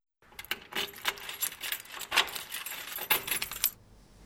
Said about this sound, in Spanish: En ese momento oyen la llave que entra en la puerta.